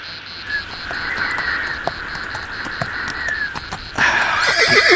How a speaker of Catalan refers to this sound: Què és això? Sembla que s'apropa un cavall. Però va sol?